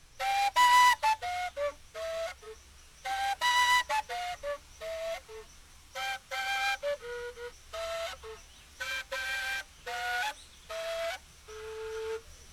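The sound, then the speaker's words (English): A female gaita (gaita hembra), a five-hole flute that carries the main melody, plays a breathy tune inspired by birdsong in short repeated phrases of bright, chirping high notes separated by brief pauses, with a faint low hum underneath. “Well, the female gaita has five holes and plays the main melody.”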